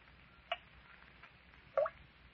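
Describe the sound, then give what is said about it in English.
Water drips steadily in an underground cavern: two clear, pitched plinks fall more than a second apart over a faint, steady background hiss, with no voices. “It ain't surprising to hear water dripping in an underground cavern.”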